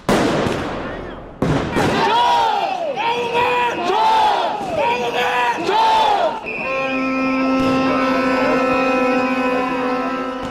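A loud crowd of protesters roars, then chants a short phrase in unison several times in a steady rhythm, followed by a sustained, high, droning horn-like tone held over the crowd noise. The protests are against claims of rigged elections and a delay of EU membership talks.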